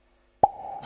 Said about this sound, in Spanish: Cada vez que cae un huevo en Rujamar, claro, suena así. Cada vez que pone un huevo suena así. Es que hasta el sonido es... Mira qué producción. Es que hasta el sonido es precioso.